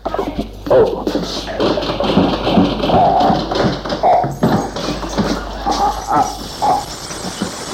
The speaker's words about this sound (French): Frédéric essaye d'ouvrir la porte en tournant plusieurs fois la poignée et en essayant d'ouvrir avec des clés.